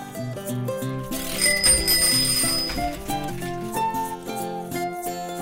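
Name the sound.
bicycle bell ringing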